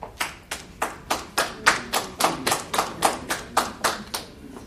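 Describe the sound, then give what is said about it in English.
Steady, evenly paced hand claps, roughly three per second, ring out for several seconds with no voices, as the audience at a public city meeting applauds a resident's comment. “You know, we all like to clap, but maybe we ought not anymore.”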